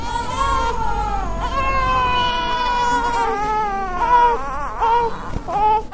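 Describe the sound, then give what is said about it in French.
A premature newborn in an incubator in the neonatal ward of a pediatric complex in Bangui cries continuously and fairly loudly, thin wailing cries rising and falling in pitch, with a brief break before starting up again toward the end. “Ici, dans la première salle, on y voit ces jolis nouveau-nés prématurément dans des couveuses, bien surveillées par des infirmières.”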